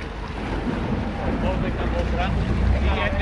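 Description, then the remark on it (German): Steady rumble of a small open boat carrying day visitors from ships anchored off Helgoland to the island in the North Sea around noon, with wind buffeting the microphone and splashing sea around it; faint voices murmur in the background. “Sie werden jetzt in kleinen, offenen Booten auf die Insel gebracht.”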